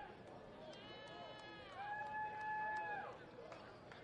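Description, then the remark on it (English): The Blue Jays team cheers from its dugout after an RBI single in a baseball game, over a steady crowd murmur, with a loud, sustained high-pitched whoop or whistle rising through the middle and then fading. “Not cheering you here, that's the Blue Jays dugout.”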